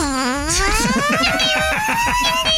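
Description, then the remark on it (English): A voice imitates an electric scooter with a steady, buzzy whine that starts low and glides upward in pitch, then holds a rising electric hum for a couple of seconds. “He was riding one of those electric scooters.”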